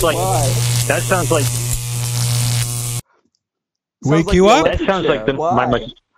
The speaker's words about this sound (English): My mosquito zapper frying the mosquito there.